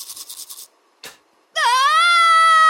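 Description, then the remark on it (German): Quick rhythmic scrubbing strokes of a toothbrush, a brief pause and one more scrape, then a loud, sustained, high-pitched scream over bleeding gums during tooth brushing that rises sharply and holds steady until the end. “Mit Schreien stoppst du kein Zahnfleischbluten.”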